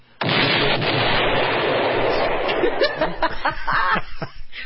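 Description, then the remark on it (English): A loud explosion sound effect bursts in abruptly, a dense roaring blast that holds for a couple of seconds before breaking up into rumbling, crackling debris and fading away. “What's the explosion for?”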